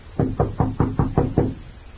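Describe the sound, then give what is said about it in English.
Six firm knocks on a door in a steady, evenly spaced rhythm, each a dull, resonant thud, with no voices around them. “I'll knock first, just to make sure.”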